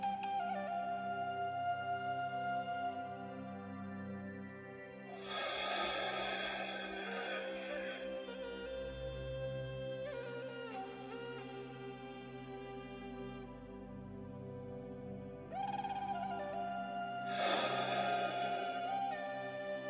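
Three slow, very deep, airy breaths are drawn in, held, then fully exhaled, rising as soft whooshing bursts over a steady, humming musical drone, with long pauses between them and no talking.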